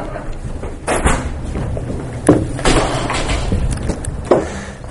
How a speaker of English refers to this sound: I'm actually going to close the door now that we're probably not going to have any more.